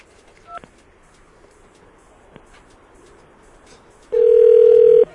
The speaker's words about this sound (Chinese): 怎么被三姐挂电话？ 她应该不小心挂掉 啊。好，再打一次，再打一次。